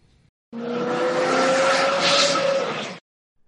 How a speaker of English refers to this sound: Zoom. But you can also say the car zoomed by me. This means the car drove by you at a very high speed.